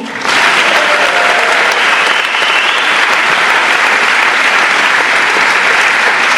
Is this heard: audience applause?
yes